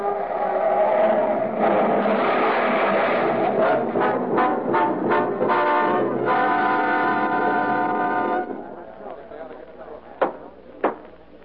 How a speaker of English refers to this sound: With an unconscious man at the wheel, the car glides downward. At the bottom of the grade, a traffic light blinks red at a crossroad. The car hurtles toward it faster and faster, then swerves madly into the cross traffic.